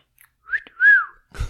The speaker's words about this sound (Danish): Så jeg har simpelthen manifesteret mig med en fløjtelyd. Og jo mere man sådan smiler og griner, jo sværere er det.